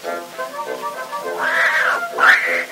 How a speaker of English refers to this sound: what is that hideous noise? Why, that's Tiny, my beautiful little Maltese cat